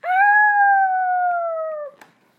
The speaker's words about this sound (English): Werewolves might trick or treat. They would howl at the moon.